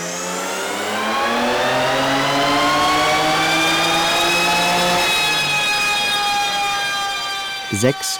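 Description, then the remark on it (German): The engine of a tuned, gold-painted BMW 3 Series revs steadily up through the gears on a dynamometer to reach maximum power, reaching 699 PS, a loud sustained mechanical roar with rising harmonic tones, ending with a brief burst near the close. “Als wir sie besuchen, testen sie den Wagen gerade auf dem Prüfstand, um das Maximum an Leistung herauszukitzeln.”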